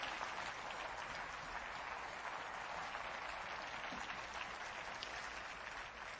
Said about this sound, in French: Quelqu'un devrait applaudir avec moi cette possibilité que nous avons.